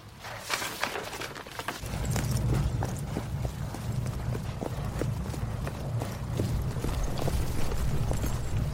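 A horse's hooves clip-clop in a steady, even rhythm as a rider arrives, fairly loud, with a low rumbling background that swells in after the first couple of seconds. No one speaks.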